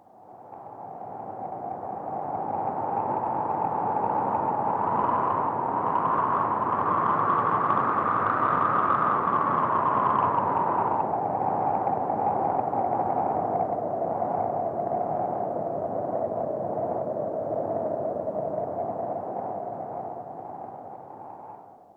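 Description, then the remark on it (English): Wind blows steadily for about twenty seconds, a hissing rush with a howling whistle that rises in pitch, swells, then sinks and wavers lower. No voices are heard. “The wind.”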